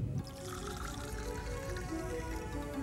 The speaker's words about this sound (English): In Data's quarters, Law pours two glasses of sparkling wine.